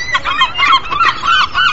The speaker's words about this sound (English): A little less of the bird life, please. Better.